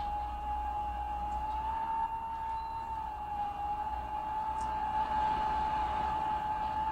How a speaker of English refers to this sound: For example, on cold nights, the wind whistles down the automatic elevator shafts. A lonely, piercing sound. As cold as the marble lobby. As forlorn as a keening woman's cry at a dead man's wake.